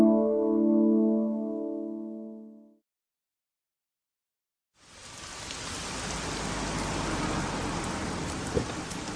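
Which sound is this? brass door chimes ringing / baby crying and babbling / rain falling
rain falling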